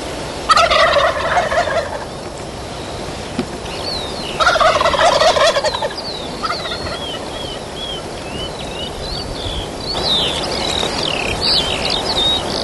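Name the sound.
wild turkeys gobbling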